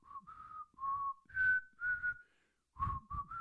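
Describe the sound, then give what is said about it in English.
A person whistles a short, wavering tune of several held notes with breathy onsets, pausing briefly midway before picking the melody back up. “Shall I go on Britain's Got Talent when you're whistling?”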